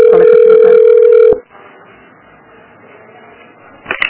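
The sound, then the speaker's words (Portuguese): A single steady telephone ringback tone sounds loudly for over a second as a call is transferred to a colleague's extension, then cuts off abruptly, leaving a quiet line hiss before a brief clunk as the call connects. “É, vou passar ali pro ramal dela.”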